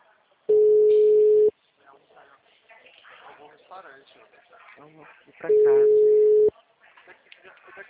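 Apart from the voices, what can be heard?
telephone busy signal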